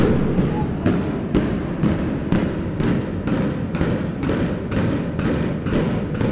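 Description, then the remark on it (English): A building implosion on a calm morning brings down the remaining shell of a building at Western's university: a rapid string of about a dozen sharp, evenly spaced booms, each cracking over a heavy, continuous low rumble that stays loud throughout. “Just a shell of the building remained when that timpani drum-like sound shattered the calm morning air.”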